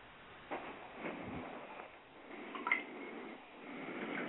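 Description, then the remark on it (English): Background water noise, a steady wash with a few irregular splashy bursts, fairly faint, with no one speaking. “Somebody's got a lot of water sounds going on in the background.”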